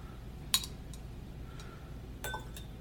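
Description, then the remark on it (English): A spoon taps against a small glass of water a few times at irregular intervals, with one bright ringing clink standing out and softer chimes trailing after, with no talking. “Oh, you brought a spoon. I did bring a spoon.”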